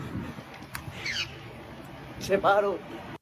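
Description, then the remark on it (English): A magpie in a video squawks twice, a brief harsh call followed by a louder, longer one a second later, over a noisy background that sounds like playback from a device. “Is that bird real?”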